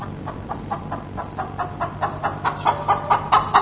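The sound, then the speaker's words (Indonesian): A chicken clucks in a steady series of short, repeated calls that grow a little louder and quicker toward the end, with a faint low hum underneath. “Suara ayam yang tidak tahu gimana itu kini terdengar kembali.”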